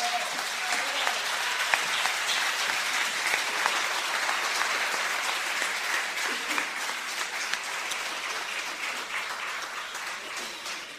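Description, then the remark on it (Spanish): Sustained standing ovation from a large audience, nearly all on their feet, honoring Cebi, dense and steady for the full eleven seconds, a continuous wash of many hands clapping with no speech over it. “Bueno, pues fue impresionante la ovación que recibió Cebi, con prácticamente todo el público puesto en pie, homenajeando con una larga ovación, sin duda alguna, los méritos y su reconocimiento a la fiesta y su participación en estas últimas décadas”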